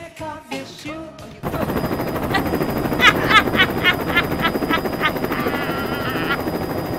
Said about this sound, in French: Oh, l'hélicoptère!